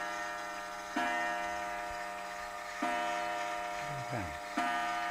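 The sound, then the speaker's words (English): A clock ticks slowly and steadily, each sharp, ringing tick spaced nearly two seconds apart, moderately loud, with a brief voice murmuring once between ticks. “What's that account? Clock.”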